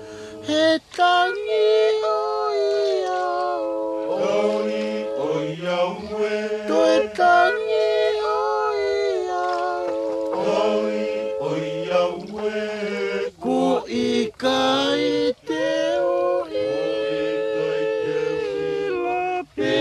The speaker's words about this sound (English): The Faikava love song, sung by the villagers of Holonga on the Tongan island of Vavau. David Fanshawe's recordings, called …, are part of the Nonesuch Explorer series.